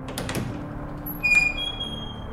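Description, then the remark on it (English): A thick oak door swings open with a soft, subdued hiss, a thin high squeak rising briefly midway, fairly quiet, with no voices. “Wesley opened the door, the thing letting out a subdued hiss as it revealed the room within”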